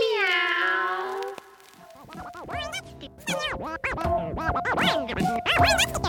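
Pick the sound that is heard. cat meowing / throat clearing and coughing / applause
cat meowing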